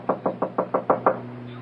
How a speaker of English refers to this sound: Didn't you hear me knock?